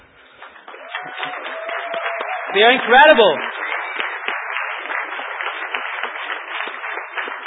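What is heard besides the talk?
audience applause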